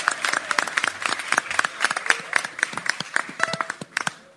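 An audience claps steadily for several seconds, many hands producing dense, crackling bursts of applause at a fairly even loudness, with no one speaking over it.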